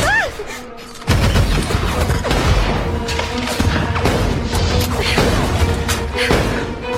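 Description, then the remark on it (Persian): Heavy gunfire erupts after a brief quieter opening, a dense, sustained barrage of loud shots and heavy thuds. It continues without pause amid chaotic, battle-like noise. “به مشعل داره شلیک کن.”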